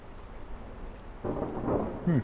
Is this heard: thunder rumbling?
yes